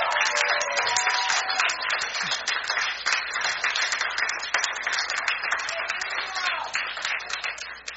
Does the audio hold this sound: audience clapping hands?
yes